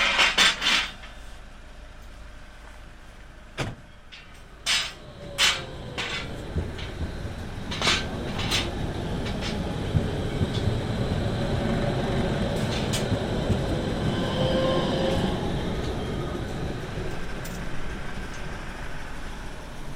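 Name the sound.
tram passing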